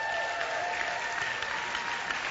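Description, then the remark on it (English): A crowd applauds with steady, dense hand clapping that holds an even loudness for a couple of seconds, with no voices standing out. “So let's give them a hand clap.”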